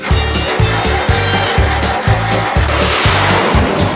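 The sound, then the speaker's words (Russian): A loud car engine revs in a steady rhythm, its deep growl surging and dipping roughly every half second for several cycles, with no voices over it. “Машина зверь, слушай.”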